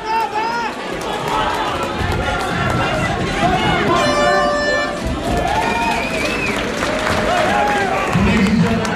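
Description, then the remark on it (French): A loud, continuous crowd roar with clapping and cheering from an audience at a fight, applauding as two boys hit each other very hard, steady throughout, while voices shout and talk over the noise. “Ils se tapent très fort et du coup les gens applaudissent quand ils se tapent très très fort.”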